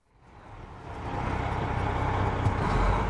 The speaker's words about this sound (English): You don't usually see tour buses bouncing along rural Kern County roads pockmarked with potholes, winding past almond orchards and miles of dusty vegetable fields.